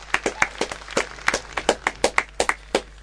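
Applause from a small audience: a steady run of sharp, crisp hand claps, moderately loud, with individual claps still distinct, and no voices over it.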